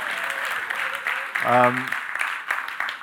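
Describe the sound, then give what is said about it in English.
An audience claps steadily for the church's leadership team in a dense, continuous wash of many hands, with a brief voiced call rising out of the applause about halfway through. “You can clap at that point if you want to.”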